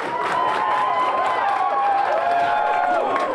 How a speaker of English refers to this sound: At the Lucky Bar here in Washington, D.C., hundreds of fans who were there to cheer for the U.S. ended up rooting for South Korea, whose victory over Portugal enabled the U.S. to advance.